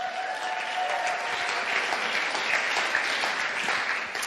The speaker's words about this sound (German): Kolosser, der nächste Bibelvers, könnt auch wieder klatschen.